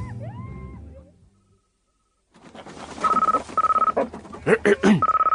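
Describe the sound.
A telephone being dialed: a few short electronic tones beep in quick succession over a faint crackly line, following a brief stretch of a voice and a moment of silence.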